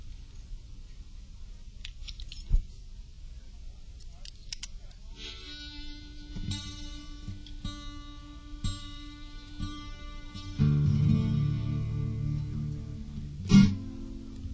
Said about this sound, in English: Next harmonica here.